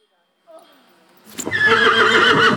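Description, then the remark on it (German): After a second of quiet outdoor ambience, a Schleswig coldblood draft horse at a breeder's in Horsbüll, northern Germany, lets out a loud, drawn-out neigh with a rough, quavering whinny that fills the rest of the moment. “Lisa Synowski war mittendrin in Horsbüll bei einer Frau, die auf starke Pferde setzt.”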